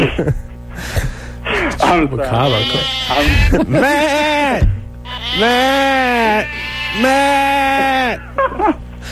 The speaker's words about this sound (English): It sounds like a yeah, goat. Yeah, that was my mom.